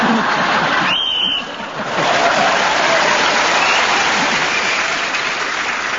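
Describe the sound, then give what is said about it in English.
Steady audience applause fills the whole clip, a dense wash of clapping that holds loud and even, dipping briefly near the start before carrying on unbroken with no voices over it. The audience applauds a panel game player's look of agony as he tries to keep going to the end. “I think they were applauding the look of agony on your face, Tony, as you tried to keep going.”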